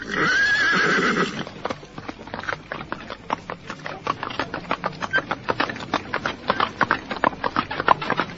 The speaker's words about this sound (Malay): Setelah sekali lagi membungkuk memberikan hormat, Patih Nambi menepuk pundak kusir kereta, dan kereta pun bergerak perlahan-lahan meninggalkan rombongan prajurit-prajurit Majapahit.